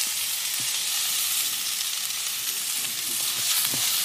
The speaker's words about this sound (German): So, um jetzt nochmal den geneigten Kochfan zu informieren. Brokkoli und Paprika schön anbraten. Und dann Zwiebel und nach so 1-2 Minuten Zwiebel und Knoblauch hinterher.